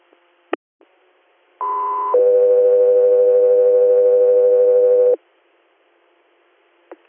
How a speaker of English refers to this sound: Philadelphia Air, stand by for tones.